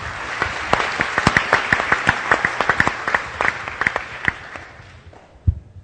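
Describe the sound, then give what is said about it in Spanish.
An audience in Bogotá applauds steadily for a student of the Universidad Nacional Abierta y a Distancia and former president Belisario Betancur, many hands clapping in a dense patter with sharper individual claps standing out, then the clapping thins and fades, ending with one low thump. “Creo que el aplauso es para ambos, me parece.”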